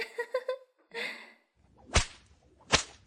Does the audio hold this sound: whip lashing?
yes